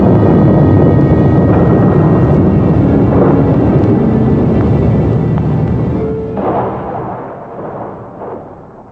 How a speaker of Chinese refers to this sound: 突然间雷声大作，地动山摇，人们都扑倒在地上，万分恐惧。